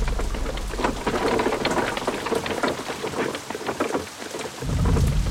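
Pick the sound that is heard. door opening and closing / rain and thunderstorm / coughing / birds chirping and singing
rain and thunderstorm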